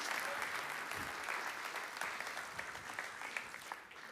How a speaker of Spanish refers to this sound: Porque damos una ofrenda de palmas todos juntos por ese amor tan grande.